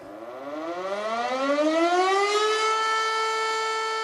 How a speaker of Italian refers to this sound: Lugubre la sirena che ieri a Wielun ha segnato l'inizio delle commemorazioni alla presenza dei presidenti tedesco e polacco, all'ora in cui 80 anni fa le prime bombe colpivano la cittadina,